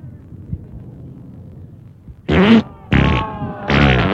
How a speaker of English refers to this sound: Oh, it farted instead.